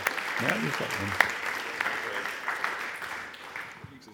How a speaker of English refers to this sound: Why don't we give him a really, really warm clap and welcome as he comes and preaches the Bible to us.